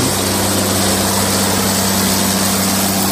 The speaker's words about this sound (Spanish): Y recorremos en el tractor esta explotación que está dentro del Parque Regional del Sureste.